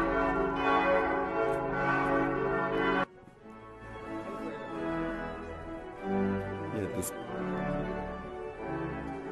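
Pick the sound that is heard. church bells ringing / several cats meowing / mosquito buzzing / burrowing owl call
church bells ringing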